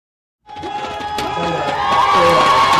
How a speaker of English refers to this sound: The sound from Taiwan today, cheering as Taiwan's top court ruled that gay marriage should be legal.